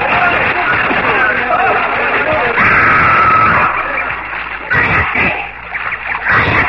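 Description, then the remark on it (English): Several people shout, yell and laugh as they throw themselves into a lake at the foot of a waterfall, a lively, continuous burst of voices and churning splashes that briefly drops before rising again. “We threw ourselves into the lake, shouting and laughing like children.”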